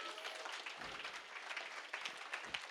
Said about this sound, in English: I got to find the movement of the Spirit right now and align myself with the Spirit. Amen. You can clap for that.